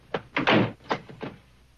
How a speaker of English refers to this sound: The man shuts his door again and Coogan heads off along the hallway.